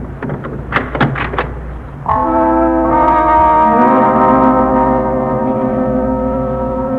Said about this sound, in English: Let's see now. Let's see. Here's the key. I'll open the door.